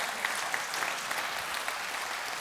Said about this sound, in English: So let's just applaud what God's doing. Let's get really loud.